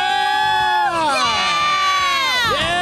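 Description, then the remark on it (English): A crowd cheers and shouts excitedly as a train passes by the track at the 40th anniversary of the mooning of the trains, with high whooping voices rising and falling in a loud, continuous roar of excitement throughout. “And a train is coming by right now, and everybody's excited.”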